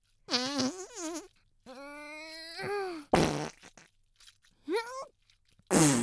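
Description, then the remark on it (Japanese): A voice imitates farts with a series of loud, buzzy blasts. Some are drawn-out and wavering in pitch, others are short raspy bursts, separated by brief pauses. “うちっぽいおならはこっちかな。”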